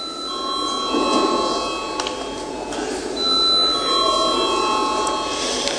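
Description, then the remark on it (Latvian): A continuous electric voting bell rings steadily for several seconds in the Latvian parliament, the Saeima, before a vote, a bright sustained metallic tone with a faint murmur of background noise beneath it. “Paldies, lūdzu zvanu.”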